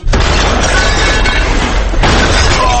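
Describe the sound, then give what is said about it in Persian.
A loud explosion boom sound effect fills the whole moment with heavy low rumble and crashing, shattering debris, then surges again with a second burst near the end. No one speaks. “آه نفهمیدم فقط انفجار تو سیستان و بلوچستان بود یا کردستان.”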